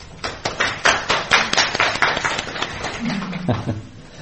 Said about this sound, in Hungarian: Megérdemel az Úr egy tapsot.